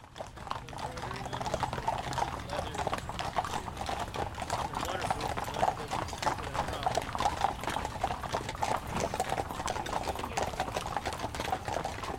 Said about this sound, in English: If you were out at the horse park on that Friday, you may well have spotted a procession of sorts. It was the Kentucky Horse Park Mounted Unit, escorting the Bravehearts horses and riders as they steadily clocked up 20 miles